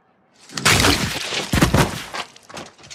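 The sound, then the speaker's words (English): A violent, crunching smash of a head against a wall: two heavy, close impacts with splintering debris, then fainter crumbling and scattered bits trailing off. No one speaks. “Can we hear the mountain's head smashing against the wall of the peeing guy?”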